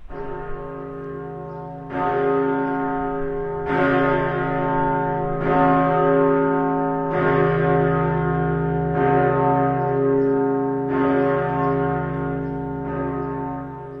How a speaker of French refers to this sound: Je vais vous poser une colle, on va écouter une cloche et vous allez me dire qui est cette cloche.